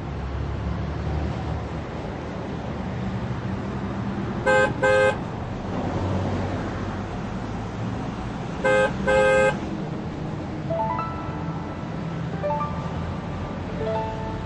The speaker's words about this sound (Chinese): 芮小丹把提包递给丁元英，看着他到座位坐下，目送着客车驶离长途汽车站。